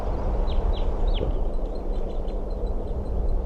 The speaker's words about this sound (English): It's recording, the birds are back.